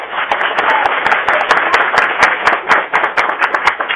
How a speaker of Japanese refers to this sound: どうもありがとうございます。なんか拍手もらっちゃってすごい気分が良くなってまいりましたんで、皆さんもね、そういうふうに講師の方、励ましてください。